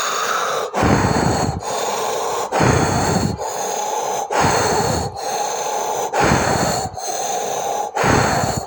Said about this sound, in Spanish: Ahora, mediante esta respiración tan pausada, quiero que abras la boca y empieces a respirar vigorosamente por la boca y exhalando el aire.